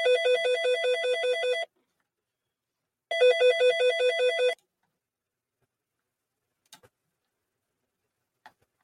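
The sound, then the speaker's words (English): A mobile phone ringtone, from Sindel's phone, plays two bursts of a bright, warbling electronic trill, each about a second and a half long with a pause between, followed by a couple of faint clicks. “Is it my phone? Whose phone is it?”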